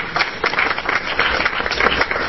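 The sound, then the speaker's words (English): An audience claps steadily, a dense, continuous patter of many hands at a fairly strong level throughout, with no voices rising above it, applauding a man who has been asked to stand. “We just want to applaud you, because I thought that was incredible.”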